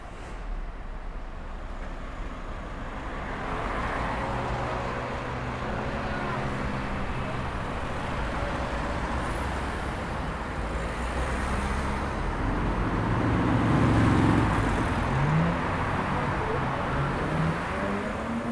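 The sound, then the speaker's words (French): Cars drive over a cobblestone street in a steady, rumbling stream of traffic, the rough tyre noise swelling slightly toward the end, with faint tonal whines and murmurs in the background. “C'est trop bruyant, les voitures.”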